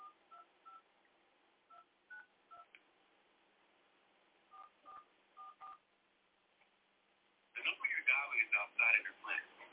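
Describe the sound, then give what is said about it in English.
Phone keypad dialing tones as someone calls in on a phone after being disconnected from Direct Connect: short, steady two-pitch beeps tapped out in three quick clusters, about a dozen in all, followed by a loud, tinny burst of telephone-line voice. “So I'm going to try and call in on my phone and see if that helps.”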